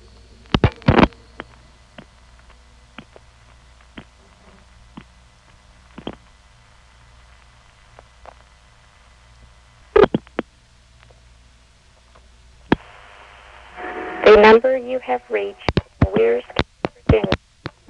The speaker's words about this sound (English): This particular office has a strange intercept arrangement on its vacant levels because first there's a series of soft ticks, and then there's a ring trip, and then finally the recording comes on.